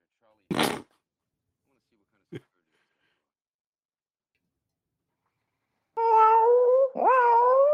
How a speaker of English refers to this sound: Fuck off, ghost cat.